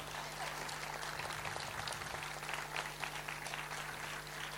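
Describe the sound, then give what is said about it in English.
Sustained applause from an audience welcoming two speakers at an event about refugees and a payment system, a dense, steady patter of many hands clapping at moderate volume with a faint low hum underneath. “They will, yeah, with a warm applause, please. A bit warmer.”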